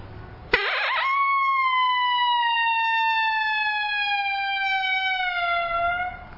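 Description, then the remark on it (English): A single long, steady lonesome howl held for about five seconds, sung by a human voice imitating a coyote, starting abruptly and slowly sliding down in pitch as it fades off at the end. “And I'll do a lonesome howl here and the, like a long howl.”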